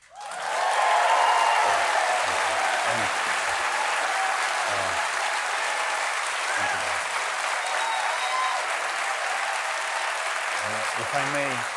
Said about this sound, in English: If I may, I just wanted to say that thank you for this round of applause. This is your applause. It's not to me, but to the people of Ukraine and our brave soldiers. Thank you very much.